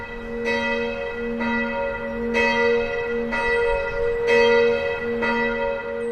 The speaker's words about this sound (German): die haben beim Engel des Herrn die Möglichkeit dazu und die Erinnerung ist das Läuten mit der Glocke.